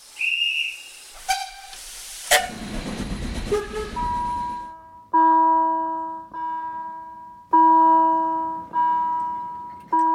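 A railway warning bell rings in slow, evenly spaced clangs, each ringing out and fading, after short train whistle toots and a loud burst of hissing steam.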